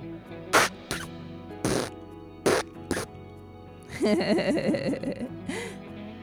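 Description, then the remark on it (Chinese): A handful of short, sharp puffs followed by a longer, buzzy, wobbling fart that sputters for about a second, loud, with no talking. “放屁虽然有点没礼貌，不过其实是非常正常而且健康的状况。”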